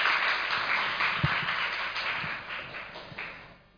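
A sustained wash of applause from a church gathering welcoming a guest invited to share his testimony, steady and moderately loud, with a few sharper individual claps and thumps standing out over about four seconds before it begins to fade.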